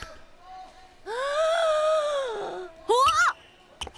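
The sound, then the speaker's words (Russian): A long, drawn-out human yawn with a voiced, moaning tone, fairly loud, followed by a brief rising vocal squeak as it trails off. No speech. “Вот это зевок!”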